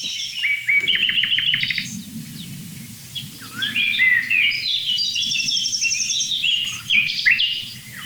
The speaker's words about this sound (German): Man hört sogar ganz zart im Hintergrund noch eine Goldammer.